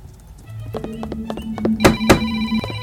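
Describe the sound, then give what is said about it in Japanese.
Telephone line tones hum steadily while a few sharp clicks and beeps cut in as a number starting with 7 is dialed on the telephone in the game Manamon 2. Two louder clicks stand out near the end. The sound is fairly clear, with no talking. “ダメだ。7から押すとダメだね。”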